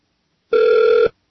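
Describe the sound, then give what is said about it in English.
A single short electronic telephone ring, a steady buzzing tone lasting about half a second, loud, with silence before and after and no one speaking. “Let's answer the phone again.”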